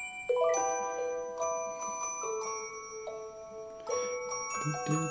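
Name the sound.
alarm clock ringing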